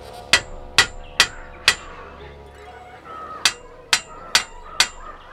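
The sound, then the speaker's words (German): A hammer strikes metal cage bars in two bursts of four sharp, ringing clanks, evenly spaced, with a short pause between the groups. The blows are loud, with no talking. “Den Hammer benötige ich zu einem anderen Zweck. Zu diesem.”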